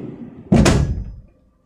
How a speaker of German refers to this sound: Schublade auf. Schublade auf. Okidoki. Schublade zu.